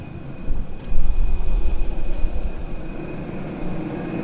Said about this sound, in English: All right, we are off the plane walking into the airport. I suppose this would be the first time we've actually stepped foot in Namibia.